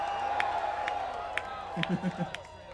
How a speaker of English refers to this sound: How about a big scream from Mr. …? Everybody.